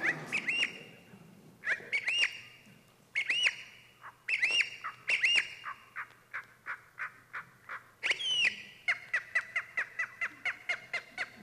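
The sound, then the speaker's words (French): Slowed-down marsh warbler song: drawn-out whistled swoops and buzzy notes in repeated phrases, ending in an even run of quick chirps, clear with no voices. “On entend plus facilement les différences une fois ralenties.”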